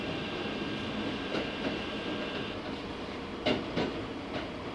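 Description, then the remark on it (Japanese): A Keikyu commuter train in Japan rumbles steadily along the rails as it resumes running after a door was blocked by an object, next stop Keikyu Kamata: a dense continuous roar with faint rhythmic clicks and a couple of sharp metallic knocks near the end. No one speaks. “返事ありませんでしたので、運転を再開いたしております。”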